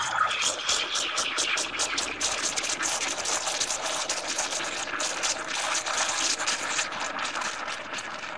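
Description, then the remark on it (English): A coffee machine runs steadily for several seconds, giving off a loud, continuous hissing whir with a rough, slightly pulsing texture and no voices. “That, of course, is a coffee machine.”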